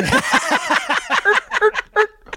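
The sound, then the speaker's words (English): A person imitates a turkey call, a fast run of throaty, warbling yelps that tumble together, then slow into a few separate, higher calls. “Is that your turkey call?”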